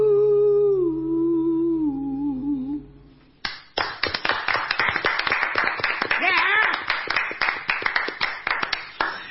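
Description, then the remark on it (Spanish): A sung note with instruments fades out, then loud applause bursts in right against the microphone, with sharp, rapid claps that go on steadily for several seconds. “esas esas sopapas que suenan son los aplausos del mismo”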